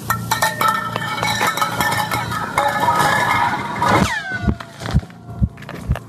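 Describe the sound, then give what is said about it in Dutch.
A metal can, dropped on the floor by someone, clatters and rattles across a hard floor for several seconds, then a sweeping whistle as a flare shoots into the air, followed by slow, deep thumps of a beating heart. “Maar wat er gebeurde, ik denk dat iemand een blikje op de grond liet vallen. Daardoor schoot er een soort vuurpijl de lucht in.”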